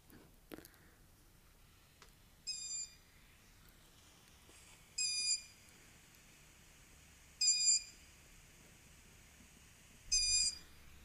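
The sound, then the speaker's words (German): Hungry long-eared owl chicks, recorded at night, give four high, squeaky begging calls, evenly spaced about two and a half seconds apart, each a short piercing squeal over a quiet background with no talking. “Also so klingt das, wenn Waldohreulen-Babys Hunger haben.”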